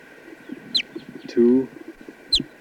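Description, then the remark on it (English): A test bird, number 248, calls with two short, high, sharply falling chirps about a second and a half apart, and a louder, low, buzzy cluck between them, over a steady background hum. “So now just trying a test bird 248. That's him right here.”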